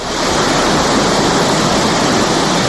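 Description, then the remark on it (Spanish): A loud, steady roar of the rushing Palancia River near Vejís, broad and continuous like a swollen torrent surging downstream, carrying ash from a forest fire that has blackened its water, with no voices and no breaks. “las cenizas, como consecuencia del incendio forestal iniciado en Vejís y que quemó 19.000 hectáreas en agosto, bajen por el río Palancia, teñidas de negro sus aguas, tal y como se puede ver en un vídeo difundido por el Ayuntamiento de Vejís.”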